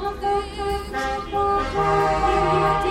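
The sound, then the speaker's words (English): A long train of cars driving a lap of Birr honk their horns at once in sustained, overlapping blasts, forming a loud, continuous chorus of different pitches, with trucks joining in partway through. “So we've just basically done a huge lap of Birr, going a massive train of cars bibbing their horns, which just waving at anybody basically.”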